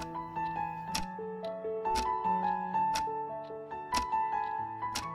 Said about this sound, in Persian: مغازه اون پر بود از ساعت‌های دیواری، مچی و رومیزی. تیک تاک هزار تا ساعت توی این مغازه سمفونی عجیبی ساخته بود.